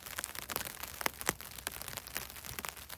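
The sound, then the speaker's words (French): Steady rain patters down, with scattered sharp drips and crackles over a soft, continuous hiss. It stays at an even, moderate level with no voices. “La pluie, c'est notre première porte d'entrée dans l'album qu'on va vous présenter aujourd'hui.”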